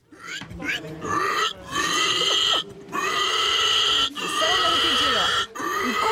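Loud, piercing pig squeals in several long, strained bursts with brief gaps, mixed with low grunting snorts, filling the whole stretch.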